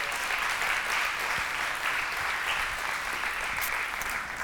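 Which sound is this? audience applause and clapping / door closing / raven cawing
audience applause and clapping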